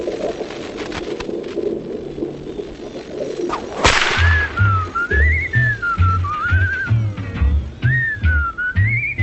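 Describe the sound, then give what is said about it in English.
A sharp crack, then a steady wavering whistle rising and falling in pitch over several seconds, with soft low pulsing tones repeating beneath it. “It broadcasts over 12 nights a comparative study of whistles, including whistles that your high school track coach favored when he was in a bad mood, and like that guy up the street who can whistle like nobody's business.”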